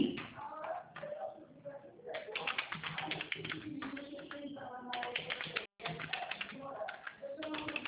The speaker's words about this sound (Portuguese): Ei, peraí que eu vou pegar a caneta.